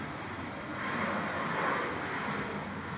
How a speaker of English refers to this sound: It's airplane. Yeah. I know what that is.